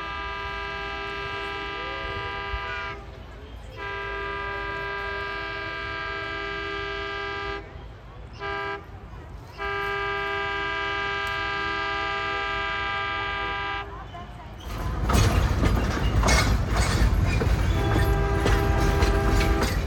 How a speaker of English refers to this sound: So I'm just waiting for the train to come, and I'll take a video of it, and then I think we're going to ride it.